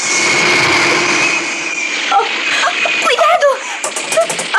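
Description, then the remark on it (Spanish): A loud, steady jet engine roar with a thin high whine running through it fills the scene, and excited voices break in over the noise during the second half. “¡Más rápidos que este jet! ¡Nos están disparando!”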